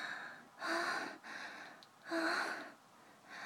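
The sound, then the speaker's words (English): Heavy, rhythmic panting: about four breathy, rasping breaths in quick succession, alternating stronger and softer, with no talking. “Oh, I hear you panting.”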